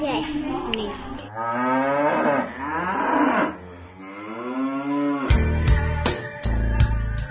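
A cow moos loudly in several long, drawn-out calls with rising and falling pitch, followed by a few shorter, rougher lowing bursts near the end.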